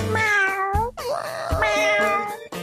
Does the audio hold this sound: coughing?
no